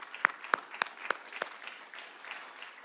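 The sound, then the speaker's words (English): A short round of applause thanking the women who shared their stories: a handful of sharp, evenly spaced claps stand out at first, then fade into a softer, steady patter of scattered clapping. No one speaks. “This is a round of applause, if you would.”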